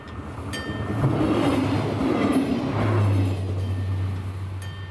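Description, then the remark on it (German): A train on the Gräfenbergbahn line rolls past the gardens of a housing estate in Buchenbühl, a steady loud rumble of wheels on track with a low droning hum that swells in the middle and holds; no voices. “Und an einigen Gärten führt auch noch eine Zugstrecke vorbei, die Gräfenbergbahn.”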